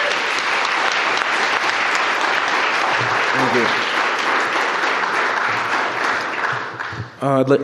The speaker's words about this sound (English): and so I'd love to have you give a warm round of applause